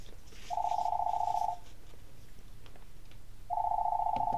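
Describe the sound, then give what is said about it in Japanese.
A home telephone rings in two steady one-second tones about two seconds apart, a clear electronic ring over a faint low background hum with no one speaking. “その後、再び自宅の電話が鳴った。”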